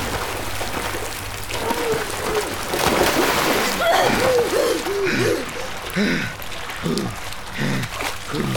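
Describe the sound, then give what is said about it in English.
Steady rushing, splashing water fills the whole stretch with a dense hiss as water floods a kitchen, coming in under the door, while excited voices cry out over it in the second half. “Is that water coming under the door?”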